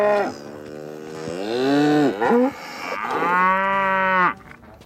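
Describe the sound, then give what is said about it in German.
Cows moo loudly as they run outside, several long drawn-out bellows following one another with barely a pause, some calls overlapping, then the lowing stops abruptly near the end. “Die Kühe springen jetzt ins Freie.”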